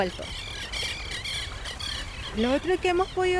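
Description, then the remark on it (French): Several birds call in quick, overlapping chirps and squawks, a busy chorus outdoors at a lagoon bordered by the Altos de Cantillana nature reserve; toward the end a person begins speaking over the calls. “Jusqu'à maintenant, on a enregistré 72 espèces d'oiseaux qui sont revenues.”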